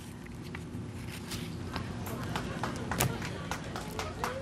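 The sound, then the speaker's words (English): Employees on the ground clap and cheer during a crewed space capsule launch as the capsule deploys its parachutes: dense, irregular hand claps over a constant background of murmuring voices and broad noise that holds at a moderate level throughout. “You can hear the clapping on the ground here. You have employees clapping and cheering.”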